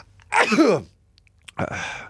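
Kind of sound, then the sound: human body sound, sneeze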